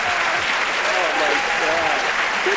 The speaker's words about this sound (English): You were both wrong. It's the applause.